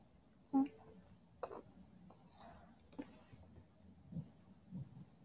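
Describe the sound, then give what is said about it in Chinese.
Soft, wet ear-licking mouth sounds: a handful of quiet smacks and clicks at irregular intervals, with faint breathy noise between them and no talking. “弟弟，好喜欢舔你的耳朵啊。”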